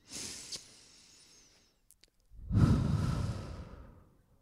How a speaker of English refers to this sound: And I hope this is a space for all of us to take those breaths together. We'll do 3 more. Seriously, breathe with me.